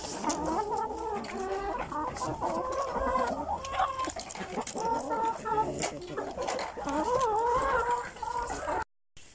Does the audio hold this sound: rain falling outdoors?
no